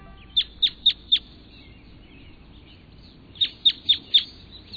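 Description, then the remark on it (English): Red crossbill calls: two crisp bursts of four sharp, high chip notes each, evenly spaced, with a short pause between groups, heard clearly over a faint low background rumble. “We're hearing the call of a red crossbill.”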